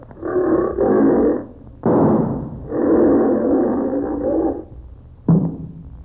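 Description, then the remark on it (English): A lion roars loudly in several long, rumbling bursts during a lion hunt, followed by a sudden sharp gunshot near the end as the lion is shot. No one speaks. “Evelyn, where did Jimmy hit the lion?”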